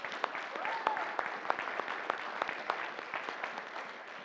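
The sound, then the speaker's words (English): An audience applauds steadily for a woman who has come professing Christ as her Savior, dense overlapping claps with sharper individual hits standing out, while murmuring voices and a brief cheer-like whoop ride underneath at moderate volume. “So give her a round of applause as well.”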